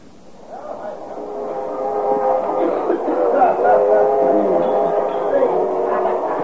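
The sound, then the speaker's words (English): Busy train club car ambience: a steady rumble and hum of the moving train beneath a dense murmur of many overlapping voices, fading in and holding at a loud, constant level. “Of a noisy spot you got here, bud. Club car's always a popular place, sir.”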